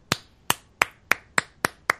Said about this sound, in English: Hey, we're all clapping here. See? I got a slow clap.